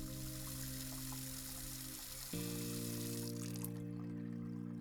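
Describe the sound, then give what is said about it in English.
Water runs steadily from a tap while dishes are washed, a continuous hiss over a low droning hum that shifts in pitch partway through, then the hiss thins out near the end. No one speaks. “That's probably the best time I ever had doing dishes for someone.”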